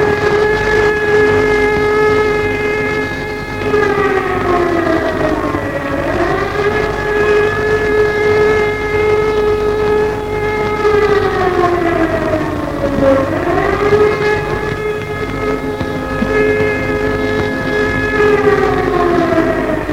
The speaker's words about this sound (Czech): Sirény dozněly několik minut po 11. hodině.